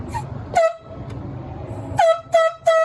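Four short, loud air horn blasts, used by biologists to flush a bear out, sound out, one early and then three in quick succession near the end, over a low background rumble.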